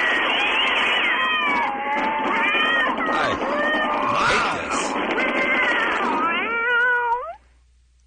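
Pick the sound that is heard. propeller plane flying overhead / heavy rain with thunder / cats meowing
cats meowing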